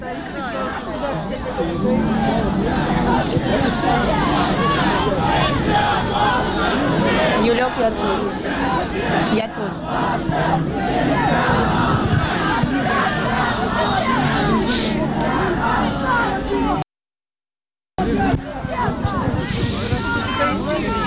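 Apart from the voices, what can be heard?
protest crowd shouting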